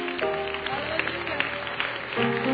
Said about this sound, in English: Come on, give the Lord another hand clap offering of thanksgiving.